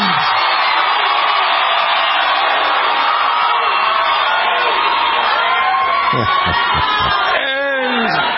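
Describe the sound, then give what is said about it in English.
A huge, loud crowd of Bernie Sanders supporters cheers and roars continuously at his rally in Phoenix, with whoops and shouted voices rising above the dense wall of noise toward the end. “and this is a loud crowd.”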